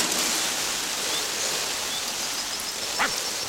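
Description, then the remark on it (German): A steady, dense hiss of water spraying forcefully from a fire hose onto flowers in a flower bed, holding constant for a few seconds with a brief splashy burst near the end; no voices. “Tatütata, hier kommt die rasende Feuerwehr. Wassermarsch.”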